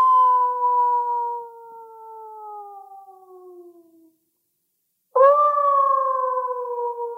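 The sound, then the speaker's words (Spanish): Mountain wolves howl in the distance in two long, mournful calls: a sustained tone that slowly sinks in pitch and fades, a second of silence, then a fresh howl rising in. No voices. “En la lejanía aullaban los lobos del monte.”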